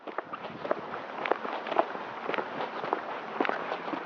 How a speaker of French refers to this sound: Ce matin-là, au numéro 15 du boulevard Thiers, le silence est brisé par le bruit de bottes.